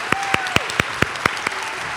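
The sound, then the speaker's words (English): Audience applause welcoming a special guest, with sharp claps landing in a steady, even rhythm, about four per second, fairly loud, over a soft background murmur. “Could you give a great big round of applause for our friend?”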